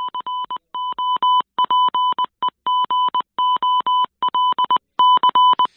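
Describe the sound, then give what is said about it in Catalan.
Morse code beeps spelling the word "gol" (goal), played on air when a goal is scored during a football match: a steady, fairly high electronic tone keyed on and off in quick dots and longer dashes, loud and continuous for several seconds, with no voices. “No és el Dia Mundial del futbol, però sí és el Dia Mundial del Còdic Morse.”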